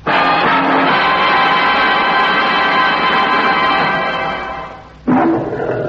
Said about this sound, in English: That's a pretty healthy roar from one of the kings of the jungle.